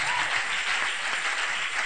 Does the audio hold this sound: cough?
no